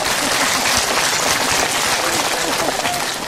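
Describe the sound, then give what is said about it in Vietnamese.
Sustained applause from an audience at a Buddhist dharma talk fills the space, a dense steady clatter of many hands clapping at once, with faint voices mixed into the crowd noise. “Sư nghe là các vị nói trả lời cho hết, cho một tràng pháo tay.”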